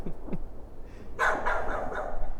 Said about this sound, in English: Actually, I think he's barking at you.